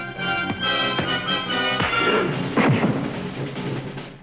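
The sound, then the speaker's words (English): During a fight in a dingy brick dungeon cell, Kirk sends the male Yang crashing to the ground: several heavy thuds and scraping impacts over about four seconds, set against a continuous dramatic music backdrop. “The male Yang advances on him. Kirk sends him crashing to the ground.”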